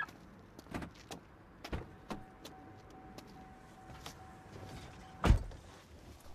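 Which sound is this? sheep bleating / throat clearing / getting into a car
getting into a car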